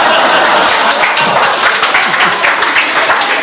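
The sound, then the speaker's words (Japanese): A group claps along together during a song recording take, a dense, steady wash of hand claps filling the whole moment, with some voices faintly mixed underneath. “ちょっとみんなの手拍子も入っちゃったけどさ、まあそれも味だわ。”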